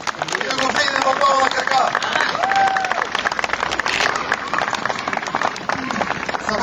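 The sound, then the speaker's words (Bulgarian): Loud, sustained audience applause fills the whole stretch, dense overlapping claps with a few voices calling out from the crowd, steady throughout. “Нека да подираме с бурни овации.”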